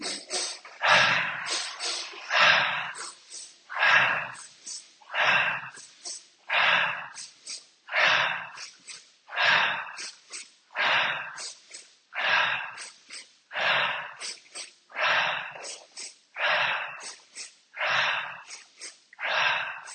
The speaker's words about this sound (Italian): Ripartiamo con il respiro.